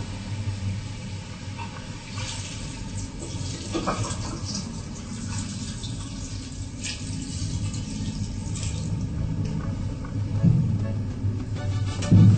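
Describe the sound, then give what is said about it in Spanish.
Half a litre of water pours steadily into a pot or container for about twelve seconds for cooking a vegetable dish, a continuous splashing rush that swells slightly louder near the end, with no voices. “Para poder hacer un exquisito plato, necesitaremos medio litro de agua.”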